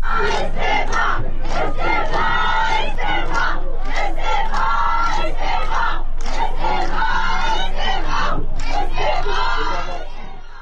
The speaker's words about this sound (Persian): گروهی از ساکنان شهر تبریز امروز در اعتراض به قتل سگ‌های بی‌سرپرست توسط شهرداری مقابل ساختمان شهرداری تبریز تجمع کردند. تظاهر کنندگان در این اجتماع با دادن شعارهای خواهان استعفای شهردار تبریز شدند.